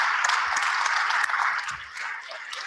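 A crowd applauds steadily, a dense wash of many hands clapping together at moderate distance, sustained throughout without a break and easing slightly toward the end.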